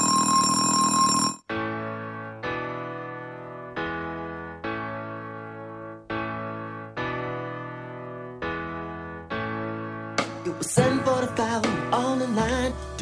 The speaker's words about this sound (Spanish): Posa't en fila que arriba una alumna extraordinària després d'aquest timbre de classe.